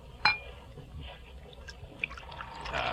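Wine is poured into a glass, starting with a brief glassy clink and then a steady trickling splash that grows fuller toward the end. No one speaks.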